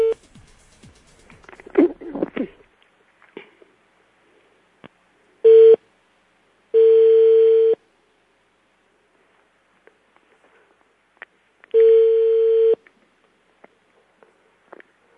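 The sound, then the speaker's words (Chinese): Steady telephone line tones while a call from Taichung, Taiwan, to a relative in Hunan is placed through a transfer: a short beep, then two long sustained tones separated by silence, clear, after some faint handling noises at the start. “这个电话是我透过转接打电话给你。”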